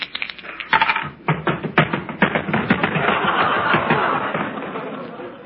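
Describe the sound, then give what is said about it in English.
A pair of dice is shaken and rolled, rattling with sharp, uneven clicks, then tumbling into a denser clatter that keeps going, fairly loud, with a faint murmur of voices behind it. “give me a pair of dice, will you?”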